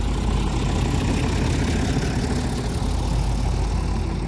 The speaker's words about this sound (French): Quelques instants plus tard, une dizaine d'autocars pénètrent dans l'enceinte du camp. Depuis les fenêtres du réfectoire, les enfants voient leurs parents monter dans les véhicules. Les moteurs grondent, puis s'évanouissent à l'horizon.